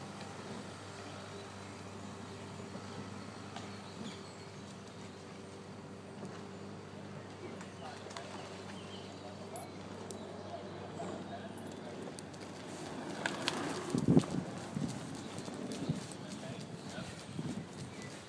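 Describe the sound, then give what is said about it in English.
Rowers pulling a boat through the water of a river, with rhythmic knocking and splashing strokes over a steady outdoor background hum, growing louder toward the end. “Presume that we're listening to rowers in the water here.”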